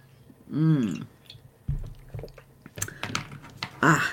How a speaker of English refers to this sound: Gonna dive in. Swig of water here. Because I feel that they have a lot to say. Before I get parched, I will have a swig.